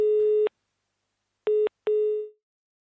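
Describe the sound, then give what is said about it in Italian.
A telephone busy tone after a dropped call, the caller having stopped calling just as the line was opened: three steady electronic beeps at one pitch, the first and last longer, separated by short silences, with the final beep fading out. No voices. “E chi stava telefonando evidentemente qua, adesso non so da dove, allora no, anche adesso chi stava telefonando ho dato la possibilità di intervenire, ma ho visto che ha smesso proprio di chiamare nel momento in cui avevo aperto la comunicazione.”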